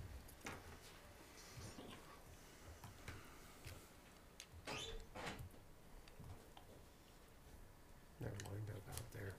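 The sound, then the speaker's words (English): A door is opened at a meeting after a closed session, with a few sharp clicks and knocks from the latch and hinges, followed by a heavier thump, over a low murmur of background activity. “Let me open the door real quick, just in case.”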